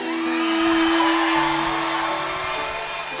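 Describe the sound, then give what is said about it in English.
A large crowd cheers for Craig Morgan as he is called back out to the stage, in a steady, loud roar that holds for a few seconds, with a sustained whoop or whistle riding on top and no clear speech. “Y'all make some noise for the living legend, Mr.”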